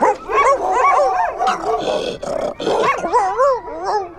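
Six huge grey-white huskies bark loudly as they run back and forth, their yelps and whining cries overlapping in a continuous frantic chorus for the whole stretch, with no talking.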